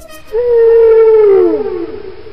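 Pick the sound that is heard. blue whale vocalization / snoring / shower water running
blue whale vocalization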